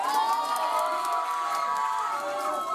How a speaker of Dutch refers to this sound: En ook dank ik natuurlijk, geef ze ook een daverend applaus.